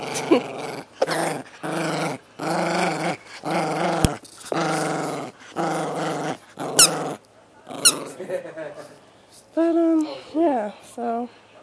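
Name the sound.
dog growling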